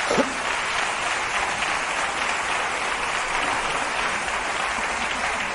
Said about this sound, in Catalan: No les aplaudan, que son unos cabrones.